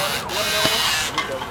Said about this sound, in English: That is a drill you hear, taking the through axles out.